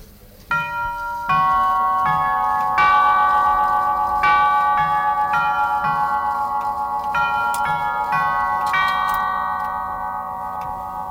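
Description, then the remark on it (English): A clock movement chimes a melody of bright, overlapping bell tones, each note ringing on, with a soft steady ticking underneath, fairly loud, without any talking. “Now I will give you another sound that will be the St. Michael on the same movement, but now we change the movement.”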